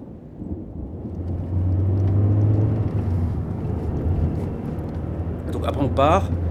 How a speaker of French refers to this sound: C'est la route, quoi. Les routes américaines, les grosses routes bien larges, comme ça, avec des gros camions. Tu sais que les routes vont toutes droites pendant des miles et des miles et des miles.